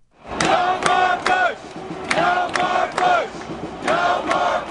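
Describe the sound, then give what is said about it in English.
A large crowd of many thousands of marchers at a peace demonstration chants and shouts in loud, rhythmic bursts as they march past Madison Square Garden in New York, many voices rising together in repeated cries over a steady din of the throng. “Many thousands marched past New York's Madison Square Garden.”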